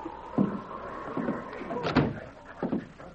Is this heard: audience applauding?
no